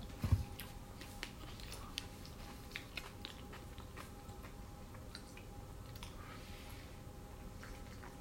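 Crunchy, wet chewing of salad with repeated soft crackles and squishy bites in an irregular rhythm, fairly quiet, with no talking.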